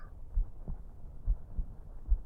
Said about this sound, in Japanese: 私の鼓動でよければ、好きなだけ耳を当てていてくださいね。